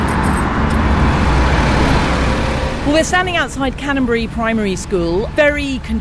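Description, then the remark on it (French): Busy street traffic with many cars on a heavily polluted street in front of Canonbury primary school in Islington, north London; a steady, dense roar of passing vehicles; about halfway through a person starts speaking over the continuous road noise. “On est juste devant l'école primaire de Canonbury, sur une rue très polluée avec beaucoup de voitures.”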